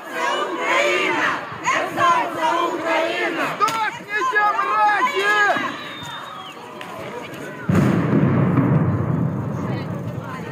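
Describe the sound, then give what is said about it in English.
A crowd at a civilian protest in Kherson shouts and chants while several sharp cracks of gunshots ring out as Russian troops fire into the air, then a loud pop gives way to a steady rushing hiss as a smoke bomb goes off. “You're going to hear Russians fire into the air trying to intimidate the crowd and also a smoke bomb.”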